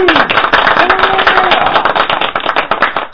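A group of people clapping in a loud, dense burst of applause that holds steady for about three seconds, with a faint voice calling out underneath.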